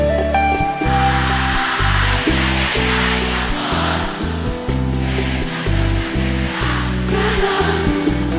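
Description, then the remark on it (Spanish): A large concert crowd sings along loudly and continuously, a dense wash of many voices blended with a steady band accompaniment and sustained low notes throughout. “Ese coro fuerte otra vez, todo el mundo, allá atrás viene.”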